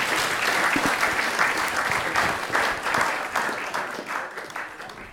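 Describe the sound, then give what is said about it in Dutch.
An audience claps steadily, a dense wash of many hands with scattered sharper claps, loud and sustained for about five seconds without easing. “Hartelijk applaus voor Applaus voor.”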